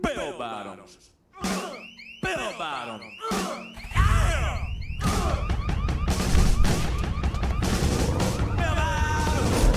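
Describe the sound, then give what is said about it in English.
Rapid gunshots crack in a steady rhythm over loud, driving music, the bursts landing on the beat; the first few seconds hold warbling, siren-like electronic tones before the gunfire kicks in. “They have been chosen so carefully that every gunshot is on the beat of whatever song is playing.”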